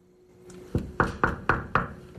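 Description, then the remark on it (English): Five firm knocks on a wooden dividing door, evenly spaced about half a second apart, fairly loud with a hollow resonance, after a faint soft tap and no voices. “knocks on the dividing door again.”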